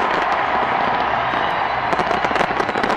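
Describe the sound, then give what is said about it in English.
A huge New Year fireworks display in Seattle explodes in a dense, continuous barrage of booms and crackles, loud, with rapid bursts piling over one another throughout and faint crowd noise beneath. “Seattle welcomed the new year this morning with a huge fireworks display.”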